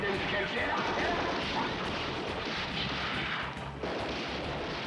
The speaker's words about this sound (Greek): Δεν δίνουν σημασία στο κόρδωμα, γιατί ακούγονται πυροβολισμοί και τα λοιπά.